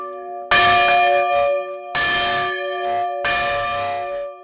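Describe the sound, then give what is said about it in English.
A church bell rings loudly, struck three times at a steady, unhurried pace, each rich clang overlapping the lingering hum of the last. No voices are heard. “And he is also very fond of bells.”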